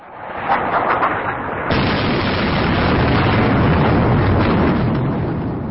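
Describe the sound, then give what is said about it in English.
Heavy, thunderous explosions of incoming bombs boom across Baghdad, Iraq, at night as an air war opens over the city, a sharp louder blast followed by a sustained, reverberating rumble that stays loud throughout, with no voices. “Baghdad, Friday night, the city reverberating with the thunderous explosions of incoming bombs.”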